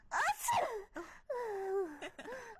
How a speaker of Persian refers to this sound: بعدم یکم امرای هم خوگب زدیم و آشنا شدیم و یک عطسه کدم و رفیق سرفه که عطسه باشه او هم آمد.